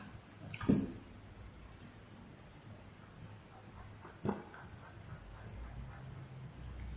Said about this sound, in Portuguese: vou tomar água.